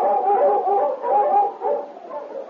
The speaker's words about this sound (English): Suddenly, he barked eagerly, ran a short distance, then stopped and looked back, still barking.